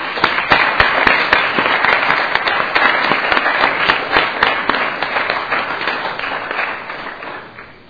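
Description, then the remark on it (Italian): Council members at a council session in Modena burst into steady applause as a councillor is invited to take his seat, a dense, loud patter of many hands clapping at once with a few sharper claps standing out, holding for several seconds before gradually thinning and fading. “Invito il consigliere a sedere, prego, e anche a fare un applauso.”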